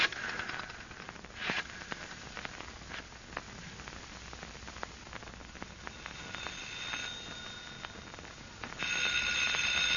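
A telephone rings with a bright, high, sustained metallic tone over crackly background noise, becoming louder and steadier toward the end. No one speaks.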